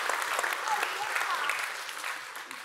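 Steady, dense applause from an audience, a continuous crackle of many hands clapping at once that holds its level and tapers slightly at the end.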